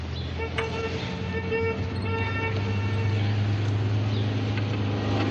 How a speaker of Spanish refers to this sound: Alicia oye el claxon del taxi.